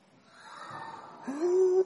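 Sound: crowd gasping sound effect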